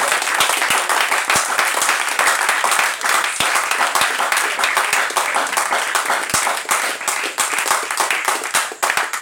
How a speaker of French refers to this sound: Applaudissez au moins pour le journal.